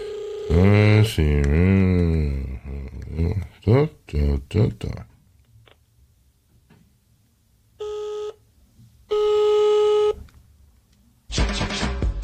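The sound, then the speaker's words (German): A voice speaks briefly, then after a pause a phone line sounds a few distinct electronic tones, each about a second long, clear, as a telephone number is dialed again after a wrong number. “Entschuldigung, verwählt. Shit. Dann nochmal, also, letztes Mal hier.”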